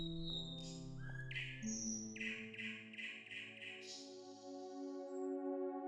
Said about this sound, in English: He sat amongst his court, a new day upon them, and off in the distance, if one listened closely, the nightingale could be heard singing to herself over the palace.